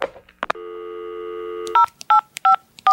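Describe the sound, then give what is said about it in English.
A steady landline dial tone hums for about a second, then four crisp touch-tone beeps sound in an even rhythm as a phone number is keyed in on a landline phone, clear. “Kids, there used to be this number to call on your landline phone, you can go look that up, where a recorded voice would tell you exactly what time it was so you could set the clocks.”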